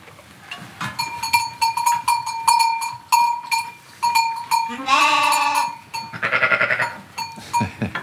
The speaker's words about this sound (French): Là, elles ont un agneau chacune, tes brebis. 1, 2, 3, 4, 5, 6.